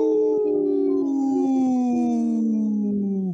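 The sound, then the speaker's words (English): People howl like wolves in a single long, loud, sustained cry whose pitch slowly slides downward over about three seconds, with several voices blending together and no talking. “And we're, you know, we just howled,”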